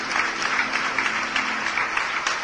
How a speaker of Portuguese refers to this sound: E vamos aplaudir o Senhor Jesus.